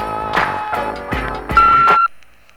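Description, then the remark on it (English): A single steady, mid-high voicemail beep lasting about half a second, sounding over busy rhythmic music, after which everything drops to near silence. “Hey, leave a message at the beat.”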